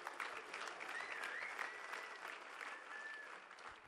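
An audience claps steadily, a dense wash of many hands at an even volume for a few seconds, with a faint whistle-like tone drifting through the noise and no one speaking.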